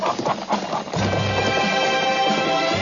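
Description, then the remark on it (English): Horse hooves clip-clop in quick taps for about a second, then a loud, sustained whinny with shaky harmonic pitch carries through to the end, prominent with no talking. “Hey, turn your horse radio on.”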